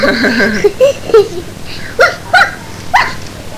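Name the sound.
dog barking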